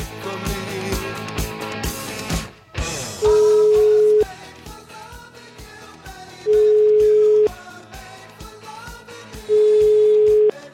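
A phone line's ringback tone sounds three times while calling a bank, each a steady one-second beep spaced a few seconds apart, clear and loud over a busy music bed playing underneath.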